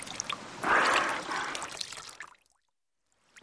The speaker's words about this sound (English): we must pour water on the dolphin, but we mustn't pour water in its hole. That's how they breathe.